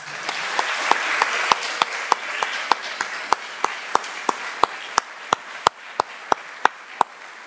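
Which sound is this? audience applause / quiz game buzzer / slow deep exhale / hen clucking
audience applause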